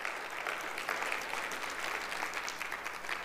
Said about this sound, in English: Everybody, that's a good place for a clap, right?